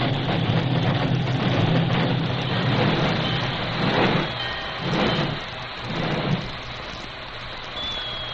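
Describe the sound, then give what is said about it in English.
A steam work engine, driven by the Lone Ranger, backs almost to a siding and hisses and squeals to a standstill: a steady wash of hiss over a low engine rumble, with several louder bursts of steam and a thin, high squeal near the end. “He backed the work engine almost to the siding before he brought it hissing and squealing to a standstill.”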